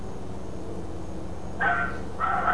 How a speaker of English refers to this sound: Neither has the dog. What was that? It was someone's dog. I thought that was your dog.